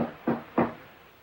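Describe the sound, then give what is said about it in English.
A door opens with two quick, solid clunks of the latch and handle, about a third of a second apart, followed by a quiet background hush with no voices. “Ben opens the door.”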